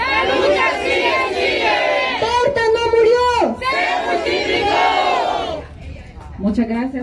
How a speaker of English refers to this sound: leads a crowd gathered outside in a familiar chant